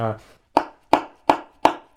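Saxophone slap tongue played softly, a tame version, by a member of the Saris Saxophone Quartet in Northern Michigan: five crisp, percussive pops in a steady, even rhythm, each with a short pitched ring that quickly decays, following a brief held tone.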